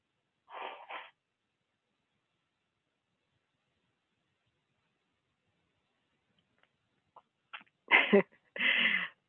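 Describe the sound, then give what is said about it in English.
A speaker blows their nose while giving a teaching: a short double blow, a long quiet pause, a few small clicks, then two loud, breathy blasts to finish. “Whenever I have to blow my nose when I'm giving teachings, I think about a time when I was in ministry school, and one of the associate ministers blew his nose up on the stage at the podium, and people complained.”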